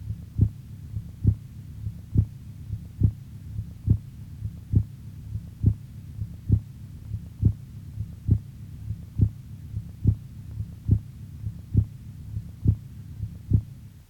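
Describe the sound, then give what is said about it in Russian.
Steady, low heart sounds of a patient with hypertension thud in a regular rhythm, about seventy beats a minute, over a faint constant hum, with no voices. They are heard over the aorta, where the second tone is much louder than over the pulmonary artery. “Прослушайте тоны сердца у больного с гипертонической болезнью, Обратите внимание, что громкость второго тона на аорте существенно выше, чем на легочной артерии.”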